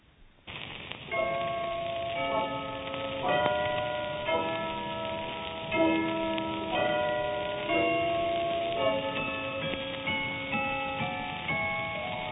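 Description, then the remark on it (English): Wedding church bells in a 1929 recording ring out in a steady peal, one clear ringing strike roughly every second, each tone lingering into the next. The sound is fairly loud, slightly muffled and old-sounding, with no voices. “Wedding bells. Well, you know what they're doing.”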